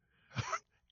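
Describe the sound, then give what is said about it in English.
A human voice lets out one brief, squeaky whine that sounds like a whimpering dog, a quick strained burst with a thin high tone, then silence. “It does sound like a whimpering dog.”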